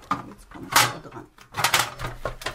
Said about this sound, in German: Nur hinter der letzten Tür der Schrankwand, da ist dieser braune Lederkoffer. Die Nachlasspflegerin nimmt eine Leiter und will den Koffer aus dem Schrank ziehen.